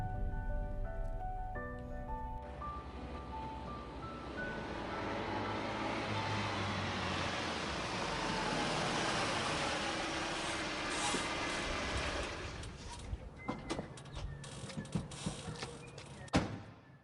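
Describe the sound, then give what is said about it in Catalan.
A car rumbles along with a broad, steady road noise that swells in the middle, then slows into mechanical creaks and clunks near the end as it stops in front of Sebastià Font's country estate (finca). “Quan vàrem aturar el cotxe davant la finca d'en Sebastià Font”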